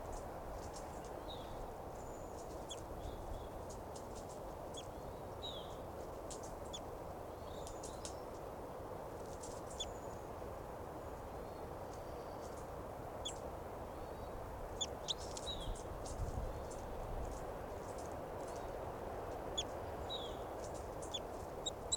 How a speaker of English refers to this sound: Fighting calls there by both birds, 387 and the wild bird, wild adult female here. It's 387 continuing to call there, and wild bird's on the ground